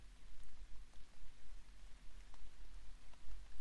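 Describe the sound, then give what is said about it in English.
Soft, steady rain patters against a window pane, a continuous hiss with scattered sharper droplet taps over a low rumble; no voices are heard. “Yeah, listen to the soft drum of the rain against the window pane.”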